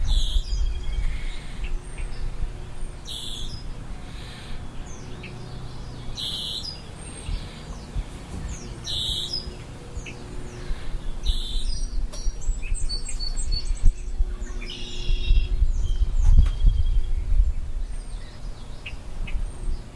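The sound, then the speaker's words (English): A red-winged blackbird sings in repeated bright, buzzy phrases over a steady low outdoor rumble that swells toward the end; no one speaks. “And there we have a red-winged blackbird.”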